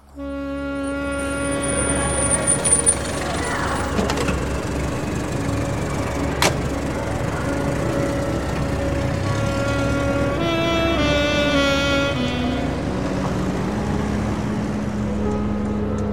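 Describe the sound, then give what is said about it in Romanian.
A continuous, fairly loud drone of engines and road noise with steady humming tones: heavy, jammed city car traffic in America, with cars packed tightly as a taxi heads toward the city centre. No voices heard. “Taxiul a luat-o spre centru, iar traficul e o nebunie. Mașini, mașini ca sardelele în cutia de conservă.”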